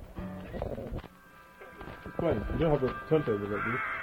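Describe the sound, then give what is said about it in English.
A porpoise-like sound at the start of a song played from a record: a series of squeaky, warbling calls that bend up and down in pitch, fairly loud, with a thin sustained tone held beneath them. “It starts off with this porpoise sound.”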